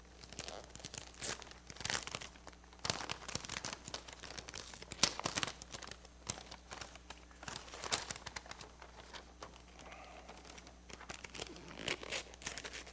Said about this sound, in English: I have this little box here. It's got a gift in it. I think it's got a gift in it. My wife wrapped it. She told me it would be really easy to unwrap. Hopefully she's right.